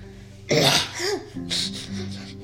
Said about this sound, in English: Ignore the coughing in the back.